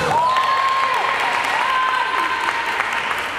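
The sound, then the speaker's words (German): Several dozen women spectators cheer and clap steadily throughout at a women's football match in Oman, with a high, sustained wavering call rising above the dense, continuous roar of the stands. “Auf den Zuschauerrängen fiebern einige Dutzend Frauen mit.”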